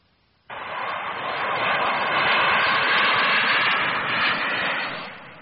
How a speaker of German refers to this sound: Das ist ein Lufthansa-Flugzeug von Düsseldorf nach München. Von Düsseldorf nach München.